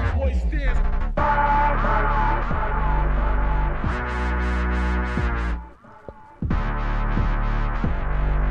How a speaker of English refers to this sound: Yeah, this tune's unmastered at the moment. Gonna have to get it in that mastering program. Make it a bit louder.